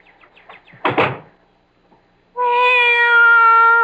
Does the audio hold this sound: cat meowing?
yes